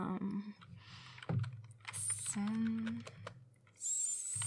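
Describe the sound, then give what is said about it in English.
Rapid, uneven clicking of keys on a computer keyboard, moderately loud, with short bursts of typing broken by brief pauses and some faint tonal background noise. “Just give me the keyboard. I am going to show you something.”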